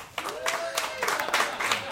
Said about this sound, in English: Who wants to hear Chris Christie? Yeah. Maybe the last we ever hear of him. Jessica McKenna, keep clapping. Keep clapping for Andrew Polk.